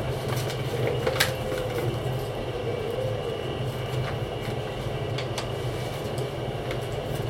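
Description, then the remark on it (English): A steam train on the West Clare Railway, the train from Limerick to Kilkee, rolls steadily along, a continuous rumble with rattling wheels and a few sharp metallic clanks, and no voices. “So my earliest memories of Kilkee is being a very small boy on the West Clare Railway and the train from Limerick.”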